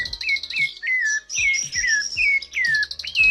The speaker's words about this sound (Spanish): porque tiene entre 6 y 9 pares de músculos en la siringe. Entonces, cuando el aire pasa por la siringe, ahí, claro, modula muchísimo el aire que pasa y puede hacer mucho sonido. Ah, ¿no? Lo escuchémoslo al zorzal. Ahí está.